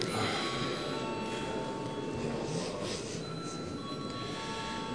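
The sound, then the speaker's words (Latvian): The voting bell of the Saeima, the Latvian parliament, rings before a vote without a break for about five seconds, a bright, buzzing metallic clatter at an even, unchanging loudness, with no one speaking over it. “Lūdzu zvanu.”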